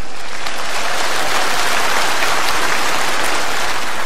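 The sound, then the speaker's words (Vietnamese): A crowd at a Buddhist retreat applauds loudly and steadily, many hands clapping at once in a dense, continuous wash of sound that fills the whole stretch without any talking. “Xin cho một tràng pháo tay.”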